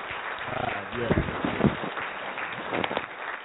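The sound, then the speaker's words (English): A hand-clap applause sound played on the live radio show When Christians Speak Talk Radio: a dense, continuous wash of applause runs throughout at steady loudness, with cheering and raised voices mixed in and a few louder shouts standing out. “Applause right here.”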